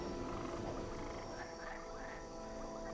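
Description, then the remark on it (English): A dense chorus of many frogs croaks continuously, overlapping calls blending into a steady, rasping drone with a few distinct croaks rising above it. No one speaks. “Ask Jehovah to take away the frogs.”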